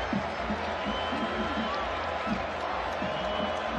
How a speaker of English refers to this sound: Crowd starts to stir.